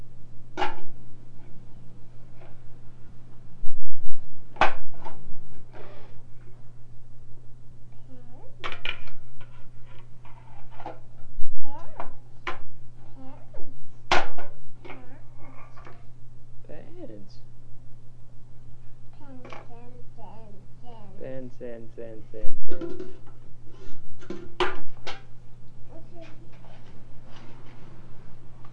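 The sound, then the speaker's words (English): A child bangs a metal pan on their tummy and knee in irregular, sharp clanks, a few loud strikes among many lighter taps, over a steady low hum with some soft voice sounds in between. “Are you banging the pan? Are you banging it on your tummy?”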